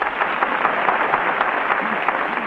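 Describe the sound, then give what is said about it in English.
A studio audience on the Town Hall program claps steadily throughout for Harry Von Zell, measured by an applause machine, a dense crackle of many hands at an even loudness, with no voices rising above it. “The applause machine shows that Harry Von Zell wins your approval and a 45-second engagement on the Town Hall program.”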